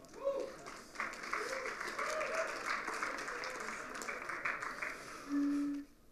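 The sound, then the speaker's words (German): An audience at the Fusion applauds steadily for about six seconds, cheering that Germany is out of the World Cup. A dense crackle of clapping mixes with scattered cheering voices, ending with a brief held vocal tone over the claps. “Ich glaube, das ist mal ein Applaus wert.”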